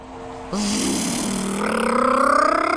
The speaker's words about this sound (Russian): Машина вдалеке проехала.